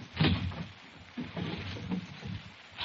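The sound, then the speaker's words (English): Someone rummages through a drawer in the Nelson kitchen, searching for big paper bags for Halloween, with irregular shuffling, rustling and clattering bursts, loudest at the start and recurring in uneven waves. No one speaks. “Well, look in the bottom drawer there.”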